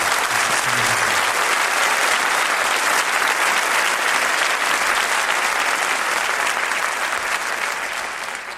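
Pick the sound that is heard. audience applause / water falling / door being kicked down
audience applause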